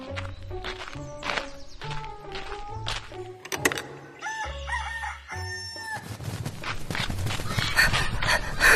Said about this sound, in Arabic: كم هو ذكي هذا الديك، فكل يوم يطلب أن أطعمه.